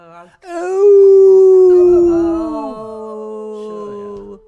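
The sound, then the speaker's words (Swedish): People howl like wolves for Walpurgis Night (Valborg), a long sustained wail that starts loud and slowly slides down in pitch, with a second lower voice joining and holding a steady tone toward the end. “En skön valborg, det är ylar vi på.”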